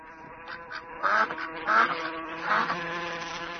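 A few nasal duck quacks pop out at intervals over a steady insect-like buzzing drone, with no voices present.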